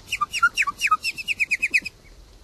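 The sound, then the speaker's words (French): A nightingale sings a fast phrase of about fourteen sharp, repeated chirping notes in a steady rhythm, including a little toad-like call, loud and clear, then falls quiet with no voices present. “Alors à l'intérieur on entend un petit cri de crapaud, dans les imitations de crapaud, ouais.”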